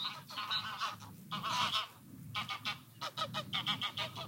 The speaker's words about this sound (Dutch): Ik laat even de ganzen overkomen.